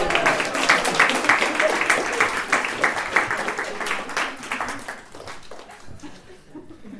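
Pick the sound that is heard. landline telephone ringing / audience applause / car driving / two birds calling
audience applause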